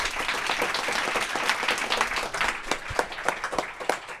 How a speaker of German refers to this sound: Vielen Dank, aber das möchte ich erstmal zurückgeben und bitte nochmal einen sehr warmen Applaus